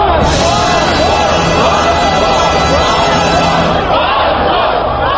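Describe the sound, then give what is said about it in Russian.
The Russian national anthem, played through loudspeakers at a neighbouring pro-Kremlin youth rally, sounds beneath a loud, dense crowd of opposition demonstrators shouting and chanting without pause on Triumfalnaya Square in Moscow, its low sustained notes mostly buried under the continuous yelling. “Гимн России под крики демонстрантов на Триумфальной площади в Москве, вероятно, одна из самых красочных картинок этих событий.”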